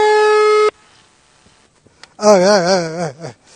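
A telephone busy tone sounds once, a steady, buzzy electronic beep lasting under a second, after the other party stops answering. It cuts off into near silence before a loud, wavering, voice-like warble rises.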